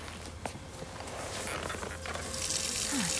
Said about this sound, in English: Now lean back, and I'm going to run the water and get it warm.